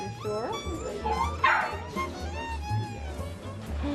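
A small dog yips and barks repeatedly, high whiny cries rising and falling with one sharper bark in the middle, over a steady low background rumble.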